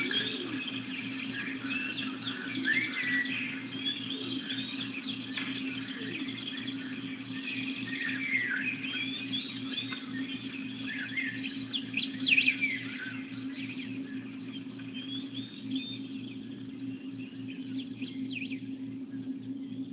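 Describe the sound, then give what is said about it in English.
Many birds chirp and sing continuously in overlapping high, twittering calls, like a dawn chorus outdoors, over a steady low hum. No one speaks. “Notice the bird sounds are gone, but the awareness remains present.”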